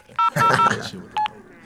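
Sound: telephone dialing tones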